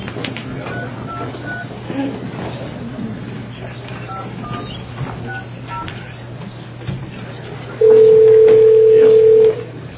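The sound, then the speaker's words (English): Low background noise with faint scattered clicks, then a loud, steady telephone dial tone cuts in near the end and holds for under two seconds before stopping, as a phone call is placed during a public hearing. “It'll take me just a couple of minutes to get Mr. Josephson on the phone”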